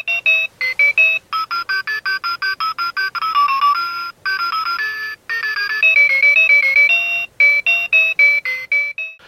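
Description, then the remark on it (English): A water-resistant talking watch's musical alarm tone: a loud electronic melody of rapid, bright beeping notes plays in quick repeating bursts, with short pauses between phrases, clear with no voices. “Choose to wake up to buzzer alarm or one of two musical tones.”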